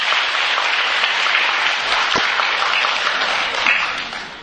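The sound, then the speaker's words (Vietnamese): A crowd claps steadily and loudly, a dense wash of many hands that holds strong for several seconds with no talking, easing slightly only at the very end. “Cho vị này một tràng pháo tay này.”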